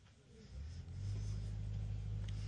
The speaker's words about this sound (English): Hopefully our truck will leave in a little while. Nadam se da će kamion uskoro isto nestati.